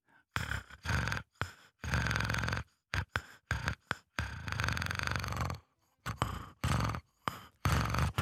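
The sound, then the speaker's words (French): Nicolas Maury imitates a cat purring into a microphone with loud, rough, rumbling breaths: a series of raspy pulses of uneven length broken by short pauses, with no talking. “C'était un bonheur de vous entendre ronronner à ce micro.”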